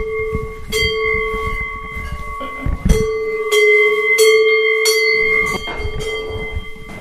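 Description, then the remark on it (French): Cowbells on grazing cattle clang at uneven intervals, their ringing tones overlapping and lingering between strikes, steady in loudness, with a low rumble underneath and no talking. “Voilà des belles cloches.”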